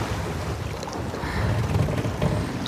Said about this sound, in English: And the water is so choppy from the seas and the storm. Hold on tight, baby, I'll get us home. And the waves are so high and the wind is so strong.